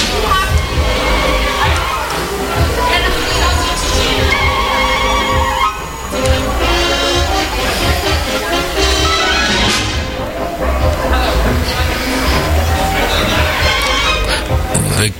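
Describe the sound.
A large crowd roars loud and steady throughout outside the doors of Radio Valencia .fm, a dense wall of many voices cheering, hooting, shouting and loudly laughing, with scattered higher yells rising above the din.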